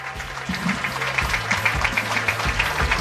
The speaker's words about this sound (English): A round of applause for all of our White Sox players, our alumni, our broadcasters, and staff.